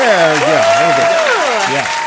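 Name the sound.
applause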